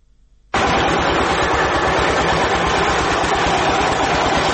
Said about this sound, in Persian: دستگاه‌های تولیدی فابریکه سمنت جبل سراج با وجود قدمت نزدیک به 70 سال هنوز هم چرخش فعالیتشان را دارند. فابریکه تولید سمنت جبل سراج از نظر تاریخی اولین فابریکه در افغانستان است.